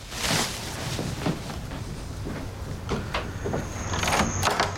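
A front door is opened with several short knocks and rattles from the latch and frame, over a steady low background hum, and a faint high whine appearing near the end.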